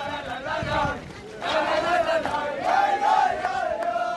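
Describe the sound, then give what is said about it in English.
A crowd of Israeli settlers sings and chants together in loud, sustained unison at a traffic circle by an army checkpoint at the entrance to Nablus in the West Bank, the melody rising and wavering over a steady din of many people, with no single speaker standing out. “Israeli soldiers say they have stopped all Palestinian traffic for several miles back as the settlers sing and dance at the intersection.”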